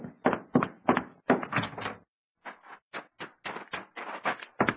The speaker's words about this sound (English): Someone's coming. I'll open the door.